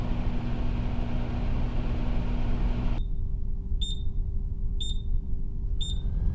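A microwave oven hums steadily, then stops and gives three clear, evenly spaced high-pitched beeps to signal it's finished, with a low background rumble continuing underneath.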